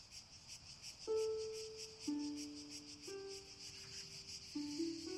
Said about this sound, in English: She dressed and went out into the garden. The summer night was still and light, and the only sound was the hum of the cicadas.